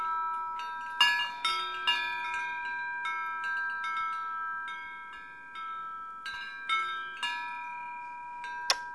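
A small metal kitty-cat chime rings repeatedly, bright overlapping tinkling strikes at an uneven pace, each note ringing on and fading, moderately loud with no voices.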